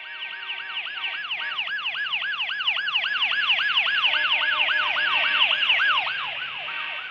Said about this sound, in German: Den Geräuschen von Hupen und der Sirene eines Krankenwagens nachzuurteilen, musste sich der Unfall mitten auf der Straße ereignet haben.